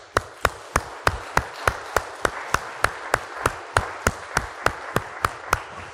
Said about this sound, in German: Wer will, darf gerne mal klatschen.